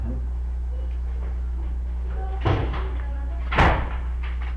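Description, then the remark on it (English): A door is opened and then shut, giving two thumps about a second apart over a steady low hum, with faint voices in the background. “If the door is like this and you don't want it open, I'm going out, what would you ask me to do? Close the door.”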